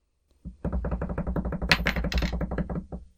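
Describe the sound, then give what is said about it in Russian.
A quick, steady drumroll tapped out on a tabletop before revealing which side a tossed coin landed on, with about two and a half seconds of rapid, even knocks that swell slightly near the end before stopping. No voices accompany it. “Ну что, барабанная дробь?”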